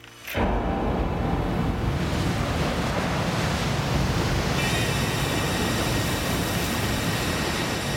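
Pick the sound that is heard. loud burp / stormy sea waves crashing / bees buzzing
stormy sea waves crashing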